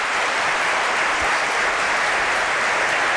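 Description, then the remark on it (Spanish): A crowd applauds steadily for the first guest, author Erik van Deniken, at Espacio en Blanco: a dense, even wash of many hands clapping at full volume for the whole stretch, with no voices over it. “Os pido un aplauso para él, nuestro primer invitado.”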